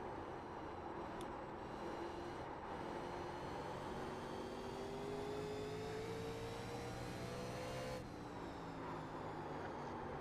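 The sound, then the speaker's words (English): A sustained, loud engine roar with rising tones as the race leaders come to the stripe at high speed, the pitch climbing steadily before shifting abruptly near the end; no one speaks. “All right, there are the leaders are coming to the stripe.”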